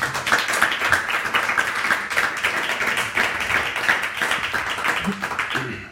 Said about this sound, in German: Ich bitte um einen kräftigen Applaus.